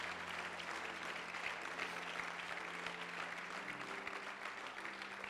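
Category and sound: crowd, audience applause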